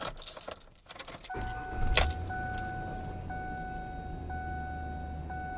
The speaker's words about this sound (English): I'm going to start up the engine. And hopefully check engine light will still be off here.